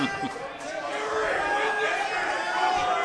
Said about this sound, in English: And the crowd's going crazy.